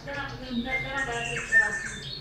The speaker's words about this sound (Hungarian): Az ő énekéhez nem tartozik egy vizuális jelzés, mert hát éjjel ez úgysem látszana, úgyhogy a fülemüle az így szokott énekelni.